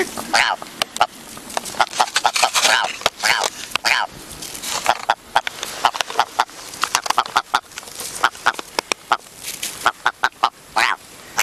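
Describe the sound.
A person imitates a clucking hen, a long run of sharp, rapid clucks and squawky bursts with uneven rhythm, fairly loud, with brief voiced sounds mixed in.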